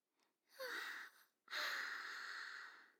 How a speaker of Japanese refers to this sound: はぁ、いけない、私としたことがあくびだなんて。